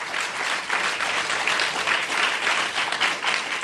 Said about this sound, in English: We've been well served by our guests tonight. And please give a round of applause, if you would, to Joan Blades and David Harris.